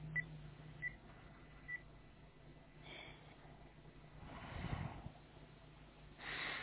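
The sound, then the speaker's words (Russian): Three short, faint phone keypad tones sound in quick succession as the number 105 is dialed on a phone, followed by quiet breathy rustling and a burst of soft noise near the end. “давайте попробуем позвонить на номер 105 с вашего телефона. Ну, давайте, набираю.”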